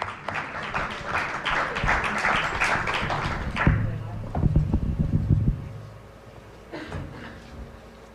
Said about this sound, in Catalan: Sí, home, i tant, un aplaudiment.